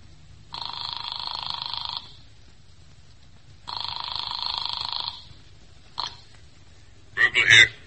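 A telephone bell rings in two long, buzzy bursts, each about a second and a half, with a pause between. A sharp click follows, then a brief rustling clatter as the receiver is lifted.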